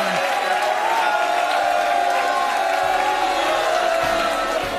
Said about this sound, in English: we're not going to eject anyone from the audience just for booing you.